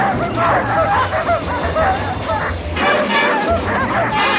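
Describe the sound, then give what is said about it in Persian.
Twelve sled dogs in a nailed crate bark and yip frantically as a coyote holds a bone at its hatch, the overlapping barks loud in a continuous chaotic clamor, with a few whimpers mixed in. “یه استخون رو جلوی دریچه میگیره ولی سگا خودش رو توی جعبه میکشه.”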